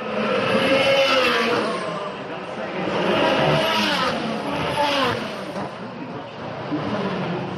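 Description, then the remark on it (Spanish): Racing cars roar past on a circuit at over 200 km/h through the swimming pool chicane in a steady loud stream, engine pitch rising and falling as they pass, with murmured voices faintly underneath. “Y eso con este ruido feo que tienen los coches, ¿eh?”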